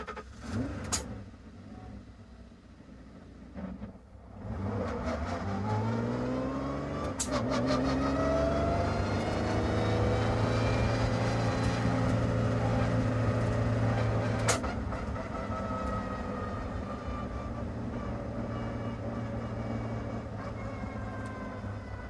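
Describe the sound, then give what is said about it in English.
A car engine revs up and accelerates, its pitch climbing in long rising sweeps before settling into a steady, loud drone; sharp clicks punctuate the run, with no one talking. “I want that motherfucker to go fast. Very high revving, high speed rate.”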